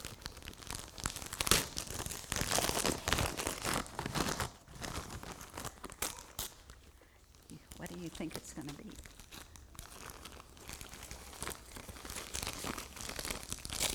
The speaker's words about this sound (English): We just have to tear that paper off.